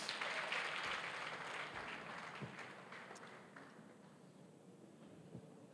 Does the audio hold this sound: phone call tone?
no